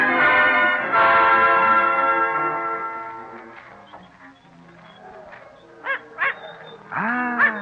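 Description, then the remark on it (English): A small dog, being shooed away before it jumps into a basket, gives two quick, sharp yaps and then a longer yelp near the end, after a loud ringing tone slowly fades out. “Back, little dog. Go away. Away. Oh, mon Dieu, he jumped into the basket.”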